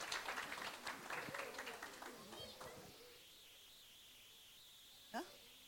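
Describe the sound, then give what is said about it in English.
A crowd gives a round of applause to a group of people who are then told to return to their seats; the dense, steady clapping tapers off and dies away after about three seconds, leaving quiet with one brief sharp sound near the end. “So I want you to give them another big fat Lass uns ihnen round noch mal of applause.”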